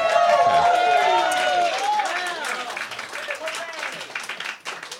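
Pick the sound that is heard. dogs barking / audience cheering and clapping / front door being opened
audience cheering and clapping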